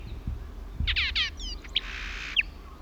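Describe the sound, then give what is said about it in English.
A Horsefall blackbird, singing at the top of a pine tree about 100 feet up on Isla Victoria, recorded 13 December 1977, calls in a quick run of bright, descending chirps and whistles, ending in a longer buzzy trill and a sharp note, set against low outdoor rumble. “Horsefall Blackbird, Isla Victoria, 13th December 77.”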